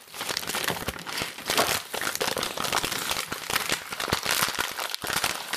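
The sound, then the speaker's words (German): Close, continuous crinkling and rustling as lemons are handled right by the microphone, a dense papery crackle that keeps shifting for several seconds with no voices. “Das, liebe Kinder, waren Zitronen.”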